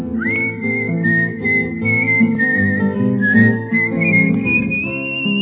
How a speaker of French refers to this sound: Siffle, siffle, ma fille, et tu auras un homme.